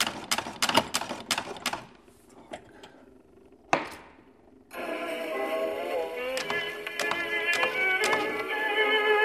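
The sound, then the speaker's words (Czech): A rapid series of sharp mechanical clicks and ratcheting as the hand crank of a gramophone from the early 1920s is wound, then a brief pause and a single knock, before scratchy old-fashioned music starts playing and continues steadily, at an exhibition in the information centre on Masaryk Square in Kojetín, Czech Republic. “Točíme klikou.”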